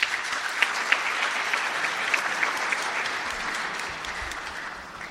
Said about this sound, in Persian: خودتون رو تشویق کنید دوباره.